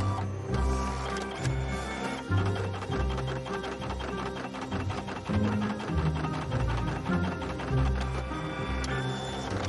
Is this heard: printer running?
yes